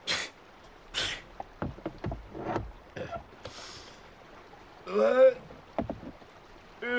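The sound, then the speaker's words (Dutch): Oars dip and splash through water in a steady series of strokes as a small boat is rowed across a river, with a brief voiced sound partway through. “Vaar liever. Ja, ja, het komt in orde. Ik vaar al.”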